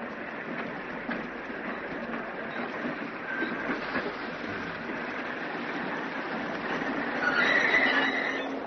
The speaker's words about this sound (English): Eventually, a train came down the tracks and ground to a stop just near us.